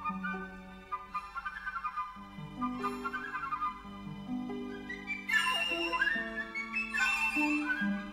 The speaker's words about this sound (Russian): Не похожа на нее ее маленькая сестра, флейта пикколо с пронзительным звуком.